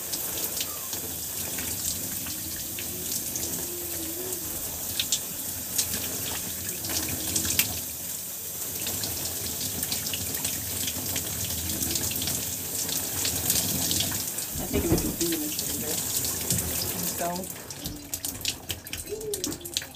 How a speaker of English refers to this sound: And so for the last step I do is I just roll my hair underneath the shower. Making sure that it is completely saturated with this warm water.